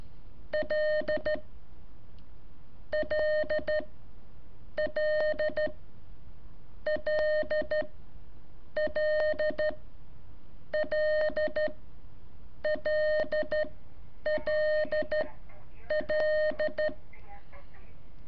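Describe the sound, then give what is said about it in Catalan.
Morse code beeps, the attention signal followed by the letter L, tapped out in about nine short, evenly spaced bursts of keyed tones, each group a rapid pattern of on-off pulses, clear and fairly loud against a quiet background. “primero el signo de atención. La L de Lima.”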